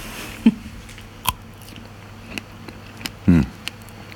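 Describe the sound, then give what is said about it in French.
Crisp bites into a crunchy, juicy fruit of the Dream variety followed by chewing, with a few sharp crunches spaced irregularly and a louder burst near the end, fairly quiet with no talking. “On peut la goûter ensemble ? Oui, bien sûr. Oui, elle est vraiment très bonne et elle est très juteuse aussi. Allez-y, goûtez-la.”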